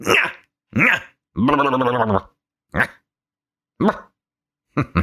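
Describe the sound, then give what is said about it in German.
A person imitates a barking dog with a series of loud yips and one longer drawn-out howl-like bark, separated by short pauses. “Man kläfft erstmal wie so ein Köter.”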